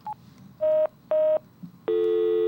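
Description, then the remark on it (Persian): Telephone dialing tones: a tiny blip, then two short electronic beeps in quick succession, followed by a longer steady tone that continues to the end, clear with no voices. “آقا یه لحظه گوشی قفلن نگه دار، هادلان ما شروع کرده به زنگ زدن.”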